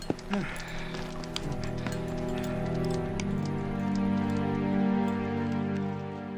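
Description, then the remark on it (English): Hail patters down as a storm comes in, in scattered, irregular taps and clicks, steady throughout, over a low sustained humming drone. “Let's get to the chopper. It's starting to hail.”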